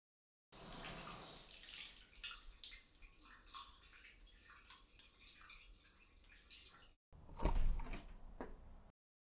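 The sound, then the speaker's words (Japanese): A shower runs with a steady hiss of spraying water for several seconds, then cuts off briefly before a louder burst of splashing and clatter. No one speaks. “はい、では、シャワー行ってきます。”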